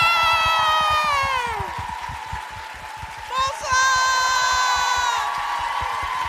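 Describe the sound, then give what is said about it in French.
A large crowd at a show claps and cheers steadily for several seconds as a performer is introduced, with high whoops and whistles rising above the dense rhythmic applause, swelling again briefly toward the end. “Oh là là, la vache, il y a du monde.”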